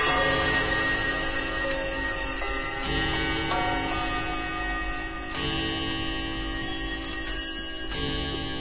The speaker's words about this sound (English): So you add track number four? Let's see. I'm bringing up the turntable here. Yeah, there it is, the clock.